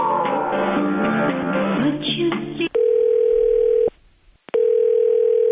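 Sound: telephone dial tone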